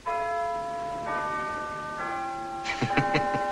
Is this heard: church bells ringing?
yes